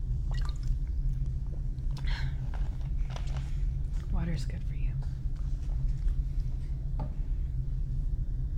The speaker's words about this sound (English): If you don't mind, I'm just gonna drink some water.